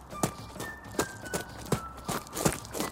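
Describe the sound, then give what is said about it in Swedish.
Quick footsteps thud at a brisk running pace as a person runs to a climbing frame, roughly six or seven impacts over a few seconds, with a faint steady tone and light outdoor background behind them. “Jag springer dit.”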